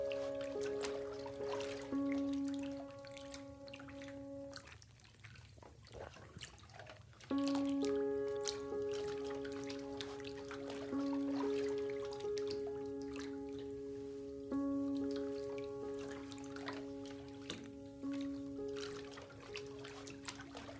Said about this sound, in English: Take a moment to notice any smells you're experiencing, the sound of the water flowing, the sensation of steam against your face.